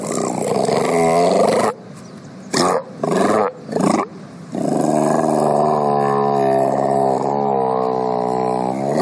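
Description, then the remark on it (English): A Mediterranean monk seal gives long, loud, harmonic roaring calls: a sustained bellow, then a few short grunting bursts, then another drawn-out wavering roar, with no one talking. “That's what a monk seal sounds like.”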